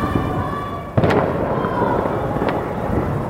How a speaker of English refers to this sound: It was the eve of Revolution Day, marking the anniversary of the 1979 revolution, and the regime was kicking things off with a fireworks display.